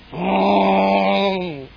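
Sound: lion roaring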